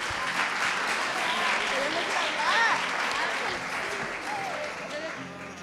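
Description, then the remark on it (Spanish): Sustained audience applause on a show, a dense steady wash of many hands clapping for several seconds, with a few faint voices and a brief cheer rising through it before it gradually tapers, greeting a musical performance. “Un fuerte aplauso.”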